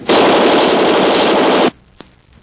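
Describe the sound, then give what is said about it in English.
A loud, continuous burst of rapid Tommy gun fire lasts about a second and a half, then cuts off abruptly, leaving quiet broken by one faint click. “That machine gun won't do you any good, Race.”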